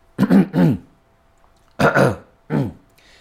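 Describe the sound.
A person clears their throat in two short groups of rough, gravelly bursts, a double rasp, then a pause of about a second before two more, with no talking.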